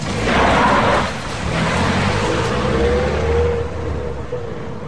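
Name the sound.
car engine running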